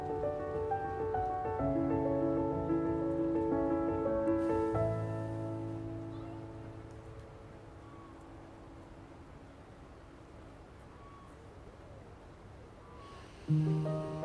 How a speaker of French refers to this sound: Et je vais inspirer. Je tiens, je bloque ma respiration.